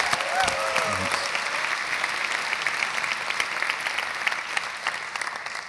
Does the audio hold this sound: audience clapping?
yes